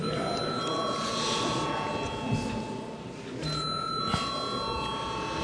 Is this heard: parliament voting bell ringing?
yes